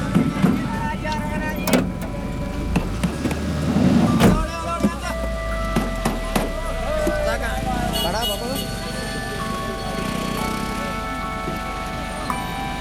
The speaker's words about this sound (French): Enfin, c'est un peu chaotique dans ce bus, on entend le responsable du bus crier après les gens pour qu'ils montent très très vite à bord.